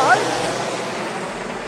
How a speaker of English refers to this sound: The waves are lapping at my cummerbund.